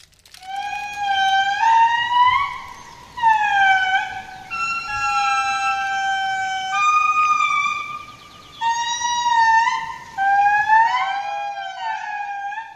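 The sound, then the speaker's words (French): Lemurs call in a forest at around 4 a.m., in loud, siren-like wails, several voices overlapping in long sliding tones that rise and fall, coming in bursts separated by short pauses. “c'était le bruit des lémuriens qui criaient en face de nous dans la forêt.”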